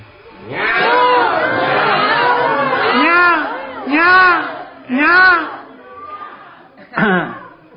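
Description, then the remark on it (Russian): A crowd of voices imitates peacock calls, loud overlapping wailing cries that rise and fall in pitch, followed by several separate bursts of the call and a last short cry. “Кришна забрался наверх и стал кричать павлинам. Как кричат павлины?”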